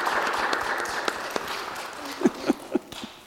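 An audience applauding: dense, steady clapping from many hands filling a large room, with a few brief voiced murmurs rising near the end as the applause carries on.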